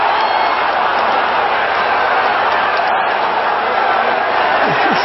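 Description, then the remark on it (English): A large golf crowd cheers and roars loudly for the whole few seconds after a roughly 50-foot putt is sunk on a par 3, a dense, steady wall of shouting voices without any clear break or fade. “All weekend, you just hear shouts and cheering.”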